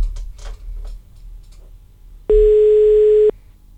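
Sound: telephone ringing tone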